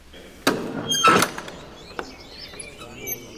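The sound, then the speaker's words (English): A priest fumbles with a heavy iron key in the old lock of a church door: a sharp metallic clack, a brief grinding scrape, then a few lighter clicks, with no voices. “They wait while the priest fumbles with the heavy iron key to unlock it.”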